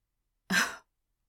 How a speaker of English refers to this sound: But I'm over here trying to talk to you, and you're just yawning, holding your head up by your hand, looking elsewhere.